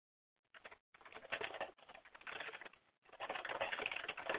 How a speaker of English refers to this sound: Sorry for those of you on Blog Talk. I'm typing something into our chat room here on Live Paranormal.